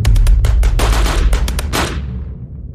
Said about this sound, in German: Aus Richtung eines dieser Fahrzeuge hörte ich einen kurzen Feuerstoß, der sich anhörte, als käme er aus einem MG-42.